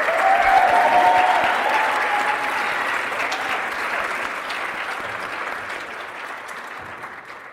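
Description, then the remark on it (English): An audience at an evening awards event applauds all the Women on the Move nominees, a dense wash of many hands clapping that starts loud and slowly tapers off over several seconds, with no voices standing out. “Please help me give a round of applause to all the Women on the Move nominees here tonight.”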